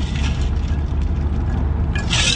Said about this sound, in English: You might have just heard a car going by, probably about 60. Shouldn't be going that fast.